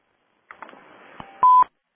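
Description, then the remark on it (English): A short burst of electronic tones: a few quick clicks and blips, then a steady, loud beep lasting about a quarter second, ending with a sharp click. No talking. “Heard another beep there.”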